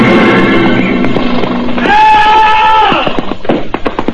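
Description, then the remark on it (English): A horse rears and gives a loud, shrill neigh lasting about a second after its rider plunges spurs deep into its sides, following rougher, lower animal noise. Scattered clattering thumps follow, like hooves striking the ground. “Then in desperation, he plunges his spurs deep into the sides of his horse. The horse rears.”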